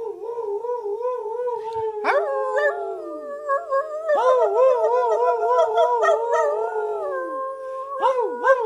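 Several wolves howl together, heard from afar, in long, wavering, overlapping calls that rise and fall in pitch, forming a steady chorus with no talking.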